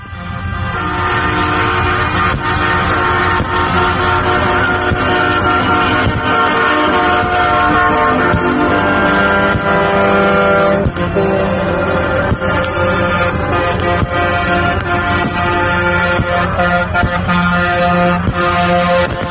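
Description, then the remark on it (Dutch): A dense, continuous blare of many protesting truckers' air horns in Canada sounding together, loud and sustained, layered into an unbroken wall of honking with a low rumbling undertone and no voices. “Ja, dat zijn heel wat vrachtwagens zo te horen.”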